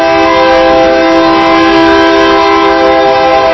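A long train coming in past the right field line of a baseball field blares its horn loud and steady, holding one sustained chord throughout, with the low rumble of the passing train underneath. No voices.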